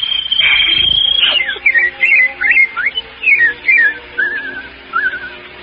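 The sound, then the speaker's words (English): A person whistles a quick, warbling birdsong imitation: a long high note sliding into a string of short chirpy trills and swoops, fairly loud, with no talking. “While the birds make music all the day. Birds, Daddy, birds.”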